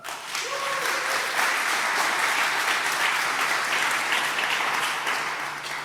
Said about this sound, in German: Genau, deswegen viel Applaus für